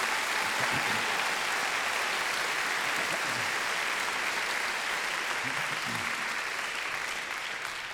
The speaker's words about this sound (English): I think you should maybe give them all a big round of applause, the people I've mentioned.